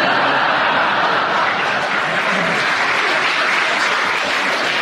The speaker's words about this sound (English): The audience applauded. Give him a bonus point because they enjoyed the interruption.